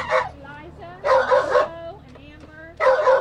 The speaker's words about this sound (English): This morning, these dogs are heading to foster homes.